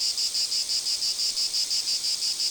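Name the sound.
cicada song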